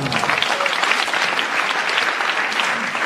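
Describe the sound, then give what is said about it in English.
An audience bursts into steady, sustained applause, a dense wash of many hands clapping at once that holds at a fairly loud, even level throughout, as a contestant is awarded an extra bonus point. “So the audience applauds and beams that you're entitled to an extra bonus point.”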